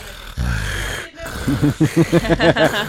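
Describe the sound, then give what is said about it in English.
A voice imitates the alien noise from Signs: a breathy rush of air, then a rapid run of about eight rhythmic, throaty chattering pulses at a low-mid pitch, fairly loud, with no other talk. “Was somebody just making the signs alien noise?”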